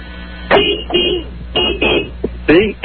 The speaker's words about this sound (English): Yeah, here he comes. Okay. He's right next to me. Yeah, you can hear him beep his horn.